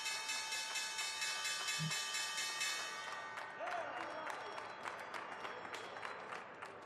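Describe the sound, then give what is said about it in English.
A virtual stock exchange opening bell rings at the start of trading in 2022, a steady, bright metallic clangor for about three seconds, then fades as a crowd breaks into sustained applause and clapping. “We've got a virtual bell ringing, a lot of those continuing as we get underway in 2022 here.”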